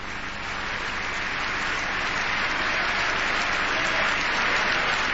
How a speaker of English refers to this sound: I don't know if that was meant to be an applause line, but I assure you the Democrats are applauding to that one.